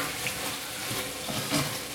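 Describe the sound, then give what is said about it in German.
Meat for chili con carne sizzles steadily in a hot frying pan, a dense crackling hiss with faint clinks of stirring and no voices. “Fleisch brutzelt. Ich hoffe, das ist nicht zu laut hier.”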